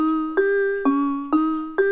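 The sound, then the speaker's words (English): A dry piano sound without reverb plays four evenly spaced notes, each a crisp struck attack followed by a steady sustained tone, with the next note cutting in cleanly and no lingering wash or echo. “Yeah, and here's an example of a piano sound without reverb.”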